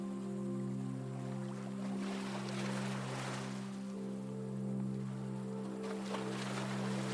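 Small waves, stirred by wind on a choppy lake, lap at the lakeshore in a continuous soft wash that swells and fades a couple of times, over a steady low droning hum. No voices.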